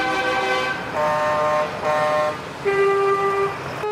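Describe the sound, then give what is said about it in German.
Tractor horns honk at a farmers' protest in overlapping blasts, about four long sustained tones of different pitches, loud over a steady rumble of engines and traffic. “So klingt es, wenn Bauern und Bäuerinnen dieser Tage protestieren mit ihren Traktoren.”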